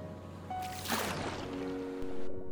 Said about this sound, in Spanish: sin miedo, dio un salto y se sumergió en el mar.